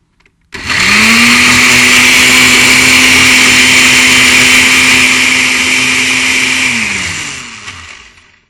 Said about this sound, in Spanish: Eso lo vamos a licuar bien licuadito. Muy bien. Si quieres echar un poquito más de agua para que lo puedas. ¿Cuánto de agua ponemos? Como media taza le puedes poner. Muy bien, media taza de agua. Así que vamos a hacer un poquito de ruido ahora.